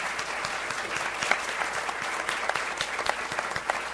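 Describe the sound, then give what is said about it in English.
An audience claps steadily for a panel after its presentation, a dense, continuous patter of many hands at a fairly even loudness with scattered sharper claps standing out, and no voices on top. “this panel deserves another really strong round of applause for a wonderful presentation.”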